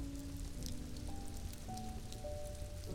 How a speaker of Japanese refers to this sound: だってここは雨降りの国ですよ。そんな簡単に雨が止むわけないじゃないですか。